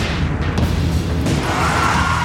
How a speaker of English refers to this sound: You hear crack, crack, crack, gunfire. The terror, the bullets.